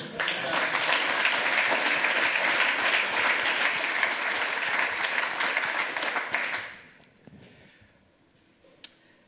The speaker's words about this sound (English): Yeah, how about a round of applause both for that and for having to follow that?